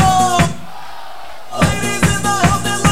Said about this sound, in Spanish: A ver si gritamos todos fuertes, que se está. Vamos.